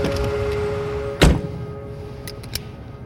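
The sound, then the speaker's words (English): A car door shuts with a solid thunk as someone gets into the car, over a steady low engine hum, followed by a couple of faint clicks and rustles inside the vehicle. “Get in the car.”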